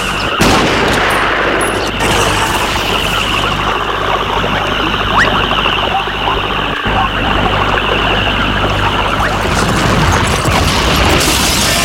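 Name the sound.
battle gunfire and explosions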